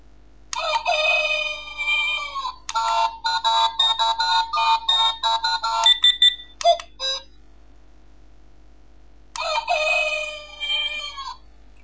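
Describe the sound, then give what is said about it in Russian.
A Yabloko talking desk clock's alarm plays bright, electronic rooster-crow calls, several bursts in a row, then a pause of a couple of seconds before the crowing alarm starts again. Clear, with no talking. “Сейчас покажу сигналы будильника.”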